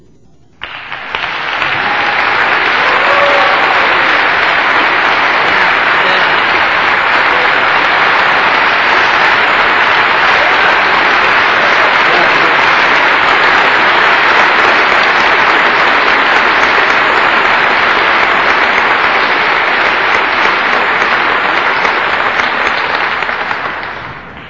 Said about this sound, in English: Oh, with all that applause, I can hardly wait to hear what I've got to say.